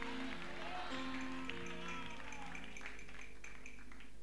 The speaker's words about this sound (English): Clap your two hands and shout, I am the one. Come on, shout it.